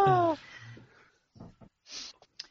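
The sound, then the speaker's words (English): A dog snuffles and licks at a man's face: a brief whiny vocal sound, then short wet, breathy sniffing bursts and quick huffs in an uneven rhythm, with no talking. “He's just going to town on my face right now.”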